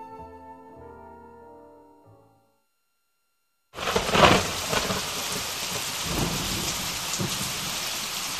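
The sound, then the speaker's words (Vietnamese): Soft tonal music fades into a brief silence, then a thunderstorm bursts in: steady heavy rain pours while deep thunder rumbles continuously through it, loud and sustained. “Sấm sét nổ liên hồi, mây kéo dài trông như trời đã tối.”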